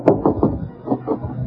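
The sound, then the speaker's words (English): Several firm knocks on the door of Bing Crosby's hotel room, the Flanders, in two quick groups of three and then two, with nothing else happening around them. “There's an autograph picture of Bill Ives hanging on the door. Well, I'll knock.”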